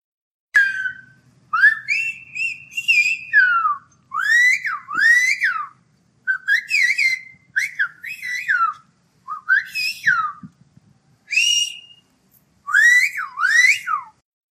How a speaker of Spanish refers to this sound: El silbo gomero fue denominado Patrimonio de la Humanidad en el año 2009. Aquí tenéis una grabación de silbo gomero para que podáis escucharlo.